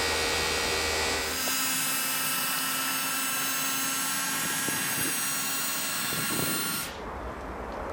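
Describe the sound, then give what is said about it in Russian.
A steady mechanical whine with a dense motor hum drones loudly for several seconds as a hydraulic pump, started by turning a valve and pressing a button, tilts up a truck cab to reach the engine, punctuated by faint clunks, then cuts off near the end leaving quieter noise. “Поворачиваешь крантик, жмешь на кнопочку. И бодрая гидравлика, но поднимает.”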